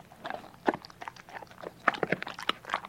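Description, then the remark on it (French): A dog gnaws on its wooden toys, making irregular crunchy bites and scraping clicks in quick uneven bursts, fairly quiet and with no voices. “C'est le chien qui mordille ses jouets en bois.”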